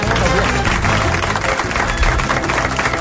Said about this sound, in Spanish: Un aplaudiment, no?